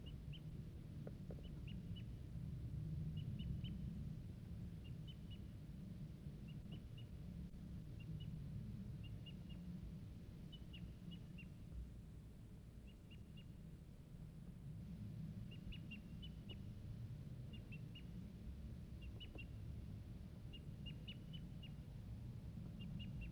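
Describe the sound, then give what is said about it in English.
A far-off wild bird calls from a treetop about 100 yards away, repeating short, high, faint notes in small clusters every second or so over a steady low rumble, with no talking. “I see, still see the wild bird. He's tooping now from a treetop, far off, about 100 yards.”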